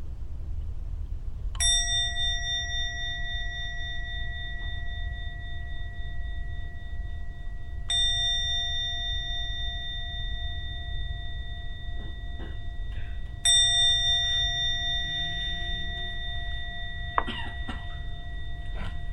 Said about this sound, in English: I'm now going to ring the gong 3 times. And when the gong finishes sounding for the 3rd time, come out from your meditation.